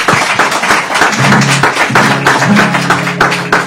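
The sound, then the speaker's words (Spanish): A burst of applause: many hands clapping in a dense, steady crackle for several seconds, with a low sustained tone or voice humming underneath through the second half. “Un aplauso, ¿no?”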